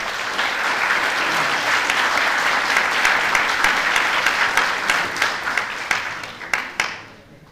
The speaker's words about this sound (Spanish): Un aplauso para nuestro compañero.